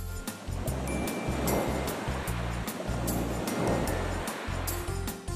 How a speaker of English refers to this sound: I've heard it before. It's the ocean's waves. The ocean's waves. That's right.